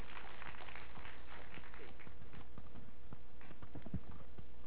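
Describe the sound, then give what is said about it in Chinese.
Steady applause from an audience welcoming a professor to give a science lecture at a science and technology museum, a dense patter of many hands clapping continuously for several seconds at moderate loudness, with no talking over it. “廖教授哈，是不是掌声来热烈掌声欢迎，谢谢我们廖教授。”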